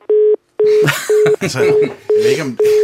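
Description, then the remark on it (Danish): A telephone line tone beeps repeatedly in steady, evenly spaced bursts over a poor phone connection while a voice talks over it, the pulses loud as if heard down the receiver. “Vi prøver lige en gang til. Det er en skød telefonforbindelse.”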